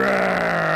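A single sustained sheep bleat sound effect, loud, with a steady wavering tone that holds for under a second without any talking.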